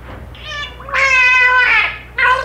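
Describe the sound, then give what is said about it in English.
A male cetacean mimics a human name beginning with M through its blowhole: three loud, nasal, wavering tonal syllables with a strong harmonic buzz, the middle one longest, with a slight hum underneath. “He would eventually roll over almost into the water with the blowhole to muffle the mook.”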